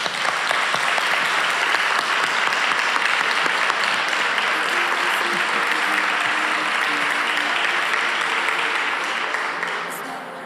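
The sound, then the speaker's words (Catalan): An audience applauds steadily for about ten seconds to thank the Espai d'Art Contemporani de Castelló and its director for the invitation, a dense, even wash of many hands clapping that stays loud throughout and only eases slightly at the very end. “Un aplaudiment, per favor.”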